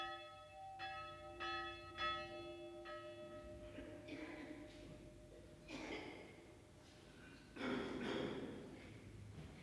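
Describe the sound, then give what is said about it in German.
A funeral death bell at a narrow cemetery outside the Hungarian provincial town of Sopron tolls for old László Bozsó in slow, steady strokes, about four rich ringing peals close together, signalling the priest has left the gravedigger's house for the chapel; then softer, muffled rustling and shuffling with no talking. “Sie läutet, dass der Pfarrer jetzt das Haus des Totengräbers verlassen hat und auf die Kapelle zugeht.”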